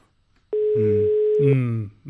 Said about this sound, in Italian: Squilla il telefono della Zanzara.